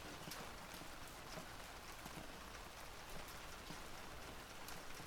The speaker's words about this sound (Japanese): そうだね、きっと雨は涙なんだ。世界中で毎日毎時間誰かが代わる代わる涙をこぼして泣いてて、きっとそれが雨になるんだ。だからいつも雨なんだね。